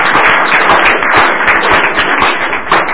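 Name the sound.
audience hand clapping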